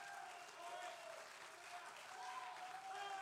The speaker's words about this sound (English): Give the Lord a hand clap of agreement and love.